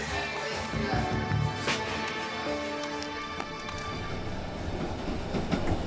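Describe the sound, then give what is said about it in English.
An Amtrak passenger train on a 12-hour ride from New York City to North Carolina rumbles and clatters along the rails, with steady mechanical noise, scattered clicks and knocks, and a brief tonal whine mid-way, heard from inside the carriage. “It's a 12-hour train ride from New York City to North Carolina”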